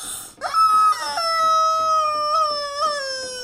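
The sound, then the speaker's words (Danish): A hen-shaped squeaky toy is squeezed, letting out a loud, drawn-out warbling squawk like a strangled chicken cry that wavers and slowly fades, with no one talking. “står der et pivedyr, der er formet som en høne. Ingvar elsker også lige at gå forbi den og give den et dap”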